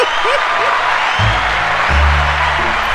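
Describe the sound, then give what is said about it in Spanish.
Steady, dense applause from an audience fills the whole stretch, with a low voice or hum-like tones sounding underneath in the second half. “Este sí merece todos los aplausos de pie.”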